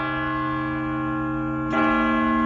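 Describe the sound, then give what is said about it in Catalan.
A clock bell chimes with a sustained, resonant ring, then a second stroke lands, slightly louder, and keeps humming, striking seven o'clock. Steady, with no voices. “Perquè estaven sonant hores amb el rellotge.”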